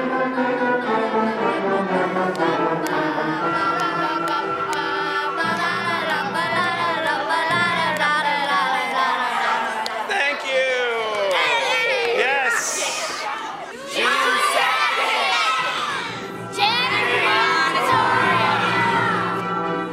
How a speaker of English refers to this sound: That's an enthusiastic crowd of kids. So can you picture it? You heard the sound of the lunchroom.